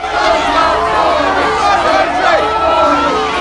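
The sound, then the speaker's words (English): A dense crowd of demonstrators outside an office block housing a TV station in Los Angeles at night fills the air with continuous overlapping shouts and voices, loud, a steady roar of many people with no single speaker standing out. “Demonstrators crowd outside an office block which houses a TV station.”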